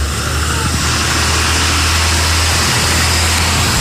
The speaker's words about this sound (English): Oh, here comes a school bus.